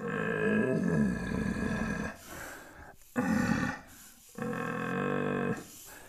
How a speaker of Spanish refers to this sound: O sea, hay un momento que los venados, cuando están calientes y se están juntando y ves que el venado viene y tal, o un venado viejo, hay veces que como más que berrear, como que gruñen, ¿no?